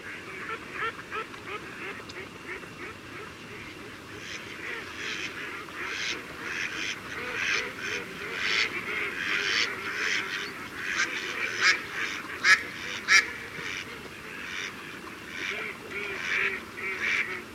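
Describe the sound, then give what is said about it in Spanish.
A dense chorus of thousands of wintering ducks of different species and other waterfowl calling continuously on wetland pools in winter, with overlapping quacks and honks rising and falling, some louder calls standing out against a steady background of many birds. “Miles de patos de diferentes especies pasan en las tablas la mala estación.”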